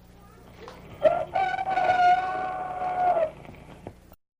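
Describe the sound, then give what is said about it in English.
A single rooster crow from Mickey the Rooster on the show Kitty a Go-Go, loud, one long drawn-out call lasting a couple of seconds, with no voices around it and quiet before and after. “But first, here comes a very important message for you from our good friend, Mickey the Rooster.”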